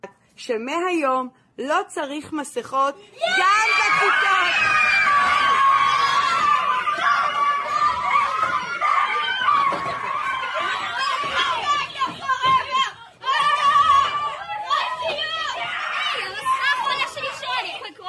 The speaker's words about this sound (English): She says in Hebrew, no more mask mandates, and the kids start cheering and they start ripping the masks forcibly, just tearing them apart.